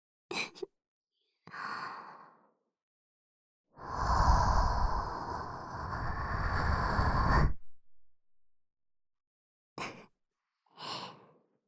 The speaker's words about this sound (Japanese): お姉ちゃんのあったかーい吐息と、お耳こそばゆくて、体がピクってしちゃうでしょ。逃げちゃダメだよ。もう一回。